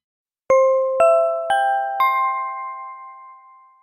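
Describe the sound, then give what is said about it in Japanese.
A four-note public address chime rings out in a rising sequence, each bright bell tone struck about half a second apart and left to ring and fade together, with no voices. “館内放送に合わせてご紹介いたしますので聞いてください。”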